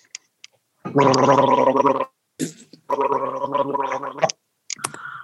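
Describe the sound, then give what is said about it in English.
Two long bursts of wet, bubbling throat gurgling, each about a second, with a sharp gasp between them and short clicks and sputters at the start and end. Loud and rich, no talking. “and today you're going to be listening to the magical sounds of gurgling.”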